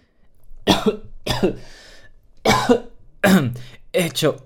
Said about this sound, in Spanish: El señor Poe abrió la boca para decir algo, pero se echó a toser.